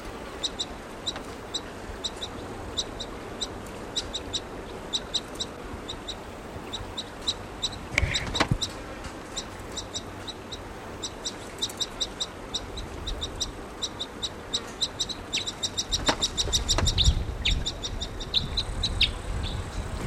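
bird, bird calling

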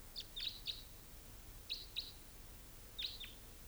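bird, bird calls

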